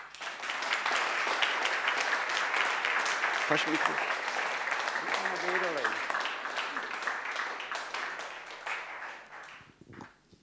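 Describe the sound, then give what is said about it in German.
An audience applauds two people being called to the front, in a dense, steady wash of clapping that holds for about nine seconds before thinning out, with a few voices briefly talking underneath. “Sie haben 35 Jahre Theke geleitet und das ist euer Applaus.”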